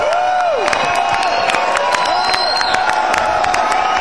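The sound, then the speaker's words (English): A large concert crowd cheers and whistles continuously for more as the band says goodnight and leaves the stage, a dense roar of voices with sharp whoops and whistles rising above it, loud and sustained throughout. “I'll tell you what, man, the crowd is ready for more.”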